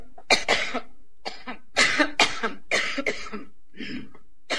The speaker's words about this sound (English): You get to hear Hillary cough for a minute here.